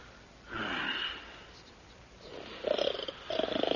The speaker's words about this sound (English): Does he not snore beautifully, comrade? He does. Beautifully and quickly.